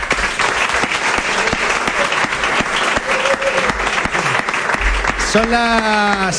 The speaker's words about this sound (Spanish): Pues un aplauso para el presidente, yo creo, ¿no?